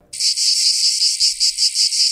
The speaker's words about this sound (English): Ah, the sound of cicadas. Get ready for trillions of cicadas to emerge this spring. That's trillions with a T. It'll be the first time in more than 200 years that two separate broods will be seen and heard.